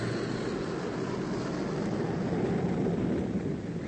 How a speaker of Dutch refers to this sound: Wat is dat? Een vliegtuig of zoiets? Kijk eens, dokter. Ja? Het is een van onze vrachtvaarders nummer 1.